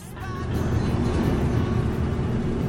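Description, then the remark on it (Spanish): A car drives along a road towards Bilbao, its engine and tire rumble a steady, low roar that holds evenly for a few seconds with no talking. “Probablemente la entrevista que vamos a hacer ahora nunca se habría producido si nuestro protagonista no hubiera hecho este viaje en su coche.”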